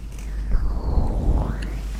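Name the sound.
ocean waves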